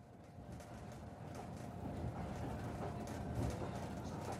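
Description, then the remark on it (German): Steady low rumble of a moving train carriage on a train to Bucharest, a continuous mechanical drone with faint rattles and clatter, no one speaking, moderately quiet and even throughout. “Im Zug nach Bukarest begegne ich einem Mann, der den Abschied von seiner Heimat ganz anders sieht als ich.”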